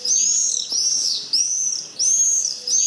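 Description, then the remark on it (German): Shrill, high-pitched screaming calls of common swifts, repeated in a quick continuous series of drawn-out screeches, loud, with no talking. “So, und den Mauersegler, den wollen wir auch nochmal einberufen.”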